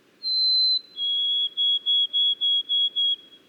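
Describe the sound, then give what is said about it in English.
A white-throated sparrow sings a clear, pure whistled song: a long high note, a slightly lower sustained note, then six evenly spaced short whistles on the same pitch, with a faint low hum beneath. “For example, white-throated sparrows in many areas have shortened their songs in just a few decades.”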